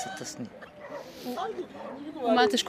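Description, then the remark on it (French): Several dogs, eight or nine that sleep with a woman at the place where she sleeps, bark and yelp in a noisy, overlapping chorus, with pitched whining cries rising toward the end, fairly loud throughout. “Tu as vu là où les chiens sont en train d'aboyer?”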